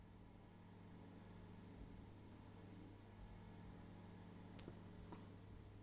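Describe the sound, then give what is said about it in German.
A faint, steady mechanical hum drones throughout, like a refrigerator compressor, with a couple of brief clicks near the end and no talking. “Ja, ja, ich weiß, aber ich höre dieses Bohren. Ist es vom Kühlschrank oder ist das?”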